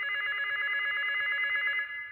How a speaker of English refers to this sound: The phone was ringing. I was so groggy, but I grabbed the receiver, and I heard the voice. It's the front desk.